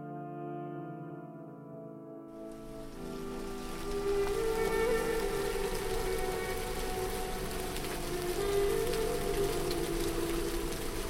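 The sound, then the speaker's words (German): Steady rain falls on the ground at Ein Gedi by the Dead Sea in winter, the rainy season, a dense, continuous hiss of patter that sweeps in after a couple of seconds and holds, with a low sustained tonal hum beneath it. “Regen. Regen in Engedi, Regen am Toten Meer.”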